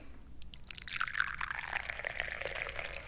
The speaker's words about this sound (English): So let's grab a teacup here and let's open up a teapot here, pour some tea.